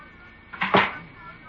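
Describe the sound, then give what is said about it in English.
A door closes once with a brief, moderately loud wooden thud and clatter, then fades quickly into quiet. “Close the door.”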